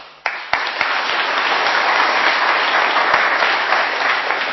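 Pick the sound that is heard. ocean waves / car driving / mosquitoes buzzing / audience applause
audience applause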